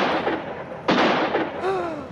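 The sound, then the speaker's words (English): A single sharp gunshot bursts out of a steady rumbling background, its crack fading quickly, followed a moment later by a faint wavering tone sliding downward. “They shot Lou.”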